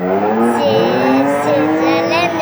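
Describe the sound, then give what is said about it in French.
Loud, continuous engine roar with a sustained tire squeal as cars skid and drift during a performance show, pitch sliding up and down over the whole stretch without a break. “Impressionnant ce qu'ils font là avec les voitures.”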